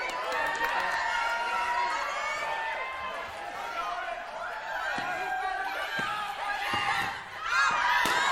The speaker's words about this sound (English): Come on, let me hear you cheer for your team. Cheer for your team.